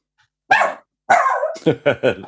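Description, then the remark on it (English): A dog barks loudly, two drawn-out, whining barks followed by a quick run of three shorter, sharper barks in succession. “The dog's unhappy with that.”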